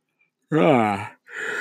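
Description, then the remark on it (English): A single long, voiced yawn with a wavering, gradually falling pitch, then a brief pause and a breathy exhale trailing off at the end. No words are spoken. “I'm going to yawn in your fucking faces.”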